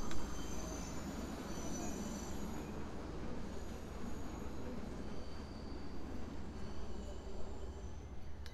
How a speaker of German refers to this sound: So, also jetzt hier hören wir immer noch den Bahnhof links.